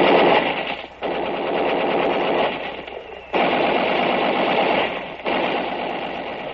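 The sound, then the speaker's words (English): Sustained bursts of rapid automatic gunfire from a machine gun on top of a ridge: a dense crackling rattle broken by brief pauses between bursts, loud and harsh with no voices. “an hour of that, and we know we aren't going any farther until that machine gun on top of the ridge is knocked out.”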